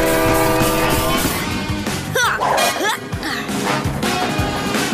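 A track-laying machine lays rails with loud, continuous mechanical clatter, repeated metallic clanks and crashes, and brief horn-like whistling tones, dense for the whole stretch.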